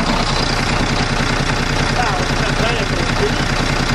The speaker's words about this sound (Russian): Взревели двигатели. Техника готова к следующему бою в новой битве за урожай, а опыта местным полеводам не занимать.